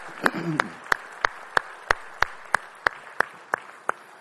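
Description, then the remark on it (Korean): An audience claps together in a steady, even rhythm of about a dozen sharp claps, over a soft background murmur, with a brief voice at the start, applauding after a praise song. “우리 찬양 받으시니까 영광의 박수 올리겠습니다.”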